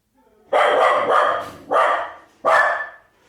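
A dog barks loudly in a quick burst of three sharp barks, the first drawn out into a double bark, with brief pauses between them and no talking, as a man arrives home.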